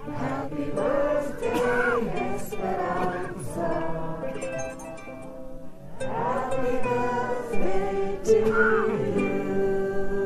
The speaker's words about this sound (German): Er bringt sogar das eingemummelte Publikum dazu, der Mama Esperanza in Mexiko ein kleines Geburtstagsständchen zu singen.